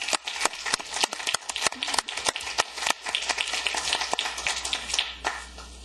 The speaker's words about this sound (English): The motion carries unanimously. Thank you very much, everyone. I think applause is appropriate.